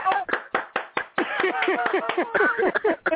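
one person clapping

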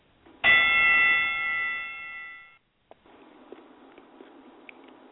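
bell ringing

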